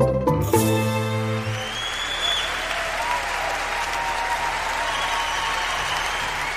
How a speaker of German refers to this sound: Ja, so stürmischen Applaus ernten im klassischen Konzertsaal wohl nur wenige Musikerinnen und Musiker. Vor allem, wenn man bedenkt, dass da noch nicht mal ein einziger Ton gespielt worden ist.